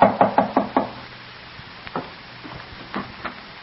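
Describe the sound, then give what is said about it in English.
Five quick, evenly spaced knocks on the door of a room in a small Geneva boarding house, sharp and fairly loud, then a few softer scattered thumps amid quiet. No one speaks. “A year and a half later, in the small Geneva boarding house where she keeps a room, Elizabeth hears a knock at her door.”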